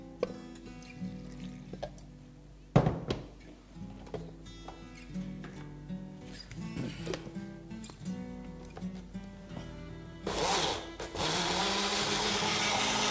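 Clinks and handling noises from a kitchen mixer grinder jar, then the grinder motor roars to life near the end in a loud, steady whirring as it blends coriander, three green chilies and a little water into a thick green paste.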